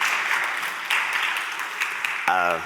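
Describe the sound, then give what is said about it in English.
A crowd applauds with a dense, steady patter of many hands clapping for a couple of seconds, then a voice starts speaking as the clapping carries on. “I think that's something you should applaud yourself for.”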